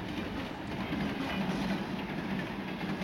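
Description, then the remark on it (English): A train rumbles steadily along the rails with a continuous roar and faint mechanical rattling, holding an even loudness throughout with no voices. “I think I gave out at least 20 business cards on that train.”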